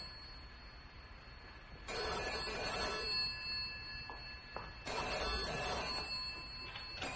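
A telephone bell rings twice in quick bursts, each jangling ring lasting over a second with a short pause between, clear with no talking.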